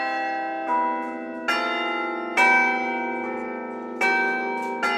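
Carillon bells on Magdeburg town hall in Germany, a set of 47 bells weighing 6 tonnes in total, played live by hand. They ring out a slow melody, each note striking clearly and letting its rich, resonant tones overlap as they decay. The bells sound full, with no voices.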